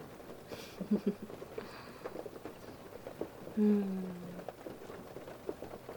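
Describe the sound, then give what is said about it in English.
Soft, steady rain patters continuously in a dense, even texture, fairly quiet, with a couple of brief low tonal sounds rising over it. “It doesn't really rain all that often, so this is a treat.”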